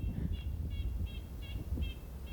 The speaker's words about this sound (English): And then that loud kind of like car alarm one, that's the red-breasted nuthatch. And those two guys, you just like constantly hear. They never stop talking.